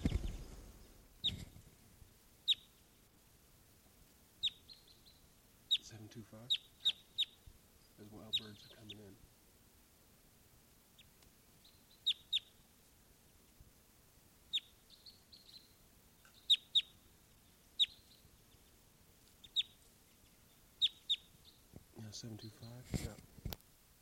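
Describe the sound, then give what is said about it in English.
Red crossbill type 2 calls from a crossbill perched in a ponderosa pine by a camp: short, sharp, high kip notes given singly or in quick pairs at irregular intervals, with brief muffled voices in a few spots. “There's a crossbill right here off the camp in a ponderosa pine looking down. Type 2 bird giving calls.”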